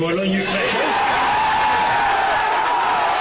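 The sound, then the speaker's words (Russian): A large crowd of Warsaw football fans cheers and whoops in a continuous roar, reacting to Michel Platini announcing that the joint bid of Poland and Ukraine was chosen to host the 2012 European Football Championship, with scattered shouts and a few rising voices standing out, loud and unbroken throughout. “Так отреагировали на слова Мишеля Платини о выборе совместной кандидатуры Польши и Украины варшавские болельщики.”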